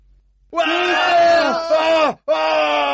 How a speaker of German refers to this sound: Die schreien laut und laufen auch weg.